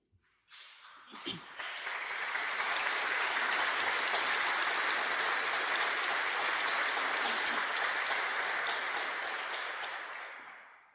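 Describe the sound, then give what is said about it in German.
A large crowd applauds and cheers continuously, a dense wash of clapping that swells within the first two seconds and holds steady and loud for several seconds before easing slightly near the end. “scheint irgendwie der Jubel noch nicht aufzuhören.”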